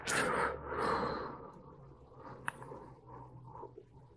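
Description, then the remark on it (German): A deep breath drawn in, followed by a long, forceful exhale pressing out as much air as possible in a breathing exercise, gradually trailing off, breathy, with no talking. “Dazu atmet man tief ein und dann presst man so viel irgend geht.”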